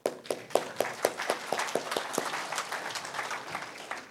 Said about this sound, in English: Let's just clap.